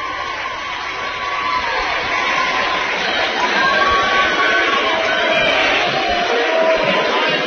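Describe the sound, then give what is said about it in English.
A loud, dense basketball crowd roars continuously, heard from the side with the student sections and the bands, with overlapping chatter, shouts and cheering blending into a steady wall of noise throughout. “We're on the side where the student sections are, so it's a little noisy.”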